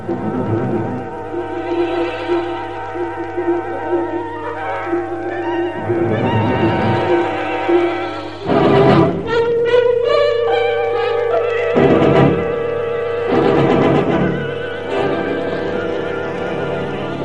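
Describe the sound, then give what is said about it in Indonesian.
A horse-drawn carriage rolls by with a steady hum of wheels, while a horse neighs and whinnies several times, loud and shrill, with no voices. “Sejak tadi kereta kuda itu mengikuti kemana aku pergi.”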